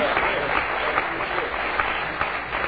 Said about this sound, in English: Well, praise the Lord. He deserves a big hand clap because of our job.